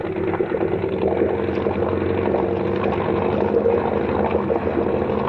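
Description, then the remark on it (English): A motorboat engine runs steadily at speed at about 3,000 rpm, a loud continuous low-to-mid drone with a rumbling throb and a wash of rushing water noise throughout as the boat throws a big wake. “Boy, we throw a wake like a little Queen Mary.”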